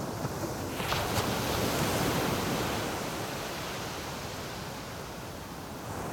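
Sea waves wash in a steady, broad roar, swelling slightly in the first few seconds and then easing into a constant hiss of surf. No voices are heard.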